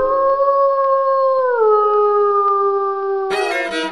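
A single long wolf howl holds a steady, clear pitch, then glides lower midway and sustains before cutting into a sudden harsh, noisy burst at the very end.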